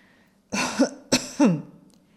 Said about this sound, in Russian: Доктор откашлялся так, будто не хотел говорить своих следующих слов.